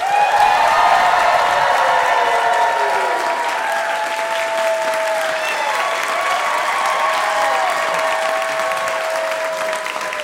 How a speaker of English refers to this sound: But they are royalty, so they expect a certain amount of pomp and circumstance, a real big cheer from the crowd when they enter the room.